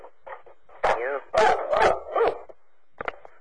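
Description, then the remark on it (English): A dog barks in a quick series of loud yaps and barks, with a few softer whines and short yips mixed in before it trails off. “Somebody's dog is barking.”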